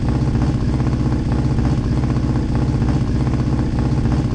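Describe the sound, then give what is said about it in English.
A loud, steady engine drone of the Wildcat motorcycle in a racing video game hums continuously with a rough, repetitive pulse, the short engine sound looping over and over. No one speaks. “That car has a very obvious loop.”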